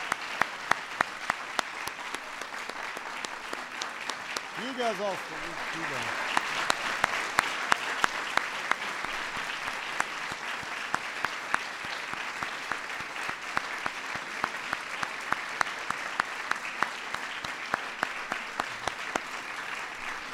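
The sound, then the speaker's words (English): Steady, sustained applause for honorees from an audience at the White House fills the whole clip, a dense wash of rapid clapping with sharp individual claps poking through, while a brief voice speaks over it near the start. “Let's give our honorees one more big round of applause.”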